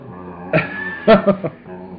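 A dog makes a few short, squeaky vocal noises in quick succession, with a brief pause after the first, over a faint steady background hum.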